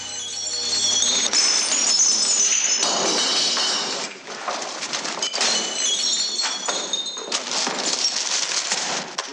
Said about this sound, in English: guards ransack his bag, smashing anything they come across.